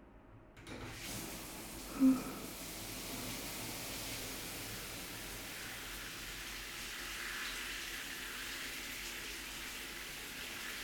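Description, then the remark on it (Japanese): A shower sprays steadily after a short quiet start, rinsing a person from behind, an even hiss of running water that continues unbroken to the end, with a brief soft knock early on. “じゃあ、シャワーかけるわね。”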